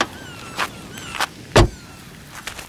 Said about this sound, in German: Aus einem der Wagen stieg Kommissar Reynolds.